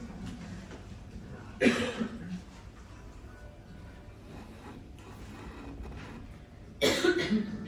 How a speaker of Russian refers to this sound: Все, закашляли сразу.